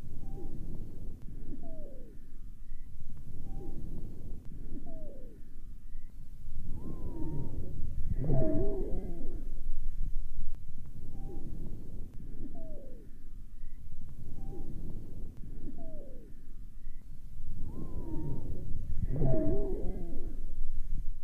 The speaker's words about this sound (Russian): Сухие свистящие хрипы усиливаются во время резкого выдоха. Прослушайте запись, сделанную у той же больной при форсированном выдохе.